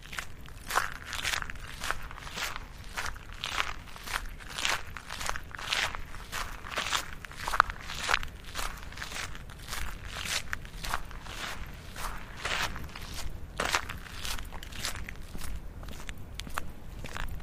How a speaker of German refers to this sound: Wie cool können eigentlich einfache Schritte klingen, wenn man über Kies läuft?